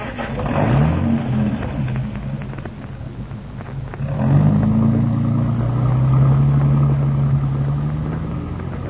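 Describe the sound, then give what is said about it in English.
A car engine revs up loudly, eases briefly, then revs again and holds a strong, steady drone as the vehicle pulls away. No voices are heard. “Drive back home and stay there.”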